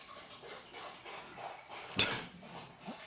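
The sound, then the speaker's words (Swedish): A dog drinks water, lapping with quick, soft, rhythmic slurps, with one sharper splash or clink partway through. No one speaks. “Vi har en hund som dricker vatten.”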